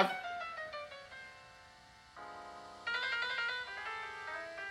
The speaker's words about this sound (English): Yeah. The harmonica yeah. hits different.